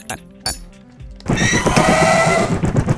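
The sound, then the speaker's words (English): A loud, raspy, donkey-like bray erupts after a second of quieter tonal sounds, its harsh honking pulses sustained and rhythmic in a video-game-style sound effect, with no talking. “Especially that. The donkey bat.”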